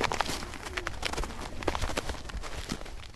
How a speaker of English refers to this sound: Wow, sounds exciting. I love the crunching of the snow. You can see what kind of weather we've had in the New York City area.